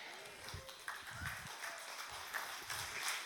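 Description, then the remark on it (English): A crowd claps steadily in a soft, dense patter of overlapping hand claps that holds at an even, fairly quiet level for a few seconds, with faint murmuring voices underneath. “I'm glad you're clapping because this one's going to get tense.”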